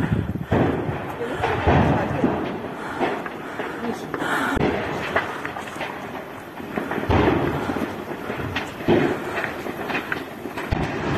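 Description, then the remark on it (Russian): A string of heavy, rumbling secondary explosions of ammunition booms at irregular intervals, some sharp, others rolling like thunder, over a continuous low roar with indistinct voices faintly present. “На многочисленных видеоочевидцев с места событий хорошо видны и слышны вторичные взрывы боеприпасов.”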